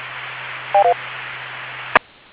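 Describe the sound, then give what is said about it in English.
Steady radio static hiss with a low hum, two quick electronic beeps early on, then a sharp click as the transmission cuts off into near silence. No one speaks. “I think I keyed on you.”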